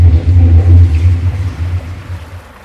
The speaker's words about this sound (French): Donc ça c'était une taque sur laquelle vient de rouler une voiture. C'est assez désagréable quand on y travaille.